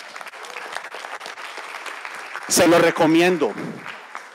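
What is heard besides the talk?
audience applause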